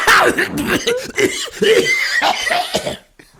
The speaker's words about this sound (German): Du rauchst doch nicht, was soll das, diese Husterei? Nee, ich mache jetzt hier den Nord, ich finde es so lustig, dass ich husten muss.